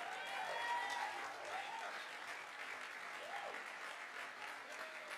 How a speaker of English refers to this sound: some few of them decided to put themselves together, and they got me iPhone 15. See how you are clapping.